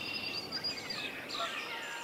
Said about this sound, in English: So who are we listening to here? We're hearing northern cardinal, blue-gray gnatcatcher, warbling vireo, red-winged blackbird, swamp sparrow, yellow warbler, common grackle, catbird, common yellowthroat, Canada goose.